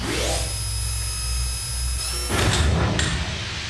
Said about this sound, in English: Okay, I'm gonna close the door.